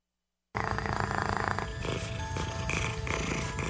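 A cat purrs after a brief moment of silence, a steady, rhythmic rumbling that continues without a break until the end.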